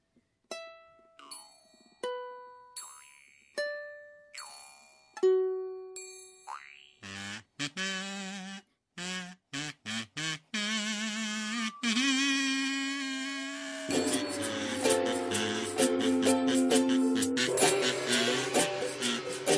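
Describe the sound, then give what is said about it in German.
A jaw harp twangs and boings in a rhythmic pattern while a Chinese gong rings out with long, shimmering metallic decays, the two blending into a dense, resonant wash that builds toward the end. “Maultrommel und chinesischen Gong hört man auch nicht oft im Einklang.”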